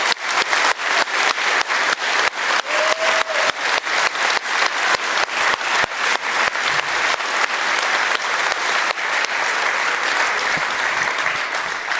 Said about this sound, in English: And I want to give this crew, who's worked since forever, but on site here since Friday, a huge shout out. Huge thank you for everyone being here. And I think a big round of applause before we go inside.